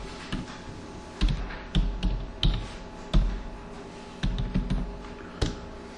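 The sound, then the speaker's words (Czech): Crisp keyboard clicks in uneven bursts, a short run of typing with brief pauses between groups of keystrokes, heard alone with no talking, as a teacher types a search for a syllabus to find a course. “Když zadám vyhledání sylabu, tady v aktivitách by nám to mělo najít ten kurz.”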